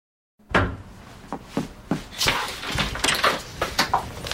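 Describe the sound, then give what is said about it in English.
A door is opened with a sharp clunk as a woman answers it after a moment of silence, followed by a string of knocks, rattles and shuffling movement, with no voices. “So when she answers the door, he's like, oh, thank God.”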